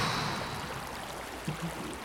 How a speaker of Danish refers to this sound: I er en knallert fattigere. Den ryger i vandet.